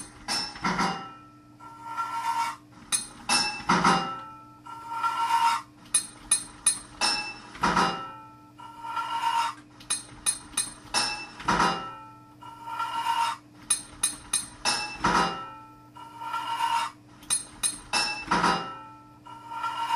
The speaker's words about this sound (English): 10 total pipes to fit this level. 2 hits of your hammer to fit a pipe.